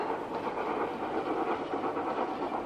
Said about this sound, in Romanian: Le-a luat trenul și le duce departe!